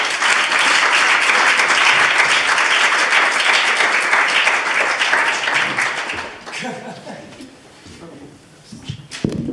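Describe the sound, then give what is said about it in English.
An audience applauds loudly while two presenters try to get their tech working, a dense, steady wash of clapping for about six seconds, then the clapping tapers off and people start talking. “We can give them a round of applause while they try and press some buttons.”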